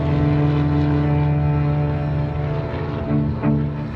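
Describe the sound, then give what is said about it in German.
A propeller airplane engine drones steadily and loudly, its low harmonic hum holding constant throughout with a slight swell near the end, no voices present. “It was the sound of the motor. I remember the most.”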